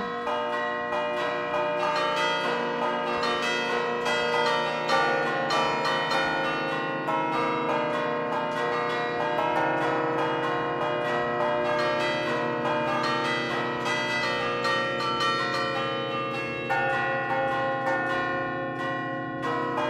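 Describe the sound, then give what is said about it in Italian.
Church bells ring in a full, continuous peal, their overlapping metallic tones sustained and resonant for the whole stretch. The sound is loud, with no voices. “Parlando di campane.”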